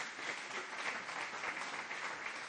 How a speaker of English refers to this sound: Come on, give him a good clap off. Isn't that great?